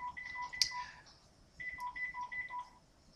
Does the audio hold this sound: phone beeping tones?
yes